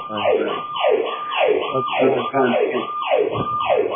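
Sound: fire engine siren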